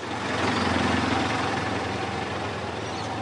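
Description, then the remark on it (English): Heavy car traffic in Sydney, mostly petrol and diesel cars, rumbles steadily, a dense wash of engine noise with a deep low drone and a constant hiss of moving vehicles, fairly loud and unbroken throughout, with no voices. “Lockdown is over and life is getting back to normal in Sydney, which means the heavy traffic is back too.”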